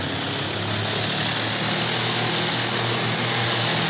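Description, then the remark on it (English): A propeller airplane engine roars loudly as the plane turns over and dives toward a pursuit plane, a dense, steady droning howl that fills all four seconds without letup. No voices are heard. “Turn her over and let's head right back in the prop of that pursuit plane.”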